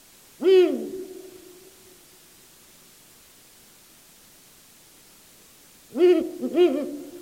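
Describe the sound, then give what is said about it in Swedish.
A Ural owl hoots: one deep, resonant hoot, then a long silent pause of several seconds before two more quick hoots follow, all over a faint steady hiss. “Och från den frasen är det inte särskilt långt till slaguglan.”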